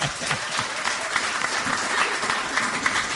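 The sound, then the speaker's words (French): A crowd applauds warmly and steadily for the first performance of the evening, a dense, continuous wash of many hands clapping at an even loudness throughout, with no voices standing out. “que je vous demande d'applaudir chaleureusement.”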